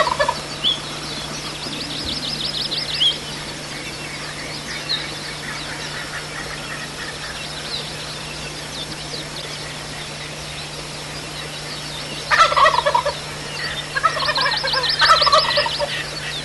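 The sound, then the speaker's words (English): Rio Grande wild turkeys, unseen in the dark, gobble in rapid, rattling bursts, one near the start and a louder pair toward the end, set against a steady low hum and a faint background of other birds. “And they're gobbling in the dark. You can't see them, but you can hear them.”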